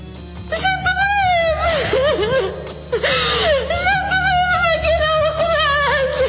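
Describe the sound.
A pregnant woman cries and wails loudly for help in a hospital in Agadir, Morocco, in drawn-out, wavering sobs, her distressed voice rising and breaking repeatedly, continuous with brief pauses for breath.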